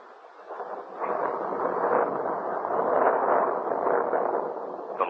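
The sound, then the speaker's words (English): A deep, sustained rumble of thunder rolls on for several seconds, loud and steady with slight swells, from a night storm over the narrow streets of old Paris. No voices are heard. “Gleamed and the thunder rattled loudly through the narrow streets.”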